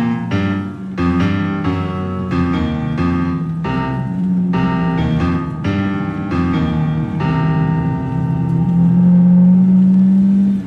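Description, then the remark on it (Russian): The engine of a large black car with no driver drones at the far end of a square with a steady low hum and a pulsing, throbbing rhythm. It grows slightly louder and rises in pitch toward the end as the car races toward the listener. No voices are heard. “Как будто в подтверждение этих мыслей на дальнем конце площади послышался шум мотора.”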